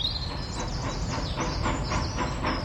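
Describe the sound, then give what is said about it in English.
A train rumbles steadily along the tracks with a rhythmic clickety-clack and a high metallic squeal over a continuous low roar, fairly loud, with no voices. “Let's go on the train!”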